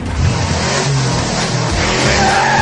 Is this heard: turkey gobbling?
no